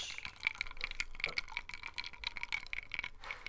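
Someone drinks a beverage: a quick run of soft, wet sipping and swallowing clicks over a faint, steady liquid hiss, fairly quiet, with no talking.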